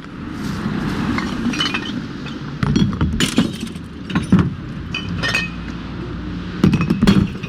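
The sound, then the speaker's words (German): Glass bottles and preserving jars clatter and clink as they are dropped one after another into a glass recycling container, with sharp bright impacts over a low rumbling background. “Immer wenn ich Flaschen oder Konservengläser in den Glascontainer werfe, frage ich mich, ob ich den Kunststoffeinsatz der Olivenölflasche oder den Metallring, der sich beim ersten Öffnen vom Verschluss löst, entfernen sollte.”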